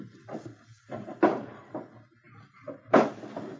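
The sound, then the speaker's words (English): Drawers in a cabin bunk and cupboard doors being pulled open and shut in a hurried search for a missing jewel box: a string of wooden knocks and scrapes, with two louder thumps standing out, without any talking. “while we try the drawers in the bunk.”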